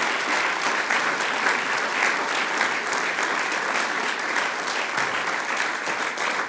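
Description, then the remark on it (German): Sustained audience applause for three women performers from the Ausseerland on stage, a dense steady patter of many hands clapping at an even loudness for several seconds, with no voices standing out over it. “Applaus für die Lenzblermann.”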